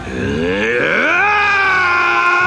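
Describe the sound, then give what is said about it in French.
A man, the character Shang Yu, lets out a loud, sustained roar of frustration and anger after Mulan cuts the rope. It rises in pitch from a low guttural growl into a strained, harmonically rich yell that holds for about two seconds. “Shang Yu, frustré, hurle de colère.”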